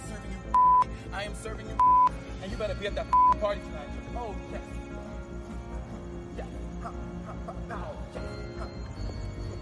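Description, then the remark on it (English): Three short, clear electronic phone keypad tones sound about a second apart, loud, over a busy background of muffled voices and noise that continues after the tones stop. “Didn't I tell you to put the phone down?”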